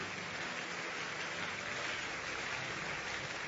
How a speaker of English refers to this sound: Thank you. Keep clapping until they leave.